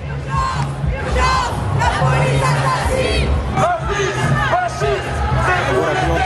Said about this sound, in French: La mobilisation s'est déroulée dans le calme tout au long du parcours malgré plusieurs slogans scandés par la foule à l'encontre des forces de l'ordre et d'Israël.